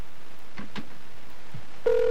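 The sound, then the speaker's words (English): A few soft clicks on a quiet phone line, then a steady ringback tone starts near the end as an outgoing call begins to ring, clear and fairly loud, with no one speaking. “But I'm actually hearing her ringing now.”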